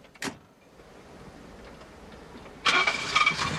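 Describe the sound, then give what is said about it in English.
A car door thunks, then an engine turns over with a low steady rumble that swells into a louder revving as the car drives off, with no voices. “The others drive off.”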